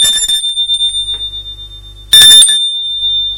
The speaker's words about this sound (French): Philippe sonne à la porte de l'appartement de Marie.